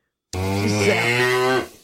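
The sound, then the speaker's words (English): A single cow moos loudly, one long, steady low call lasting over a second before tapering off, with no voices around it. “I love cows. That's not right. Nice to cows at all.”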